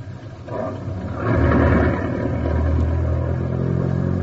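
The engine of a stolen car rumbles, swelling as it revs up briefly, then settling into a steady, loud idle as the car is driven inside. No one speaks.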